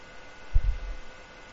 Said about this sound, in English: A fan. Oh, okay. Yeah. Well, I can't really, if I shut that fan off, that's the computer power supply fan, and I'd be talking to the walls here. I'll try to slide over a little further from it.